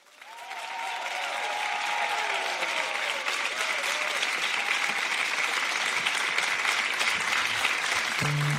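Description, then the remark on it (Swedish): Sustained audience applause at a stage show builds quickly and holds steady, a dense wash of many hands clapping, with faint cheers or whistles early on and a brief tone near the end. “Så ge nu en stor, stor applåd till Isak och Ola.”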